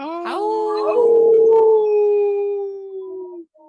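A single wolf howl rises quickly, then holds a long, steady mournful note for about three seconds before cutting off, loud and clear with no voices.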